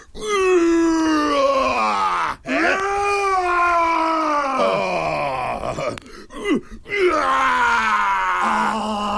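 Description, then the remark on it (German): A person roars loudly in long, strained bursts on Radio Frei, the free radio station in Erfurt, the voice sliding up and down in pitch, with two short breaks for breath and no speech. “Das ist ein schönes Brüllen.”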